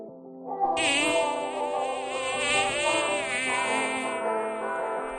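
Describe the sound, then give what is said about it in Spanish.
A dense, continuous drone of many bees buzzing, a steady humming swarm that swells slightly in intensity and carries on for several seconds with no voices. “Sí, ese zumbido casi es banda sonora de nuestra Alcarria y de otras tantas zonas de nuestra provincia. Son las abejas”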